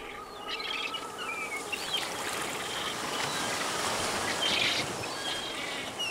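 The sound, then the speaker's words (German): An albatross colony on land at Tairoa Head: a dozen birds sit on their nests while others waddle through bushy grass. Scattered calls and chirps rise over a steady, rushing outdoor wash of wind and surf that fills the whole recording. “Ein Dutzend Tiere sitzt auf ihren Nestern, andere tapsen durch das buschige Gras. Doch so unbeholfen der Albatros an Land wegen seiner übergroßen Watschelfüße auch sein mag, einmal in der Luft ist er der eleganteste Flugkünstler des Tierreichs.”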